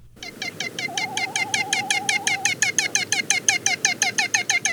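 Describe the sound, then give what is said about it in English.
A great frigatebird's song (a seabird known in Hawaii as the Eva): a steady, rapid series of buzzy, rattling pulses repeating several times a second, joined briefly by a wavering warble, fairly loud with no voices. “We've got the song of this storied seabird today, thanks to the Macaulay Library at the Cornell Lab of Ornithology.”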